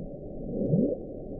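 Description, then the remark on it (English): An underwater recording of the Bloop, sped up 16 times: a low, murky rumble out of which one deep tone swoops upward in a brief whoop before fading back into the hiss. “we call it the bloop because it sounds like a bloop”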